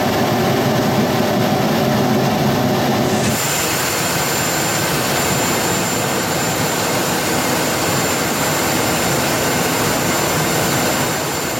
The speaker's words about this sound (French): Voilà ces images de l'armée française au Moyen-Orient, les rafales français qui abattent des drones. C'est un missile Mika qui tape un drone.